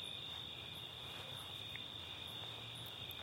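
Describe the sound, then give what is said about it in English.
A steady, continuous trill of crickets chirping fills the air without pause, a dense high-pitched chorus over a faint low outdoor rumble, with no voices present. “Those birds calling, even the crickets.”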